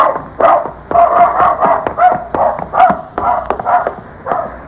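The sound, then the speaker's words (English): A dog named Laddie barks repeatedly in quick, uneven bursts, a string of short, mid-pitched yaps and woofs with brief gaps between them, fairly loud and without any talking. “Too darn bad you can't talk. We'd have a lot more fun if you could answer me.”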